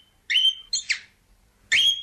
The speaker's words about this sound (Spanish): Nosotros, para empezar a ambientar un poco el tema, teníamos a Elvis, el loro que canta un himno.